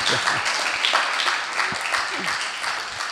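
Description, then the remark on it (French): An audience applauds with steady, dense clapping that fills the whole stretch at an even loudness, with faint murmuring voices mixed underneath. “Oui, pour applaudir.”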